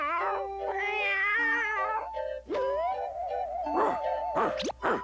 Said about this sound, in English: There's the dog. I caught the dog. At last, I caught a dog. That's not a dog. That's a cat.